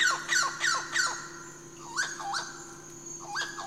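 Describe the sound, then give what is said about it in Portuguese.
A red-browed amazon parrot (papagaio-chauá) squawks: a quick run of four harsh, nasal calls, a pause, then three more spaced cries rising in pitch, over a steady low hum with no talking. “E hoje nós vamos falar de um bicho muito especial, bonito, que é o papagaio chauá.”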